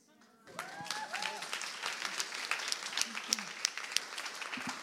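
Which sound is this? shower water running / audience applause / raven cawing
audience applause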